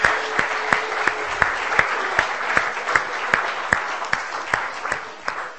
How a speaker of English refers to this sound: Shall we give the Lord a round of applause for his creative genius?